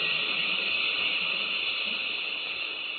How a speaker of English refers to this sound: Tim, the gas is pouring in.